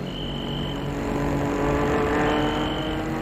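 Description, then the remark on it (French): A car races past at speed on a road, its engine a loud, steady roar that swells slightly midway, with no voices. “Une voiture passe sur lui. Elle file à vive allure.”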